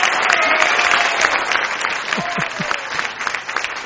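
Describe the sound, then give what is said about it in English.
A studio audience breaks into a steady round of applause after the Ag Ambassador Raffle winner is announced, dense overlapping claps filling the whole clip at an even, fairly loud level, with a few faint voices mixed in. “We got a round of applause here. The studio audience ready for it.”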